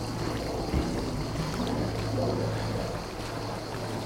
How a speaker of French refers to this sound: Par contre, ce qui est cool, c'est la rivière. Je crois qu'il ne doit pas y avoir plus belle chose au monde que d'avoir un terrain et une rivière qui coule. Beau, hein?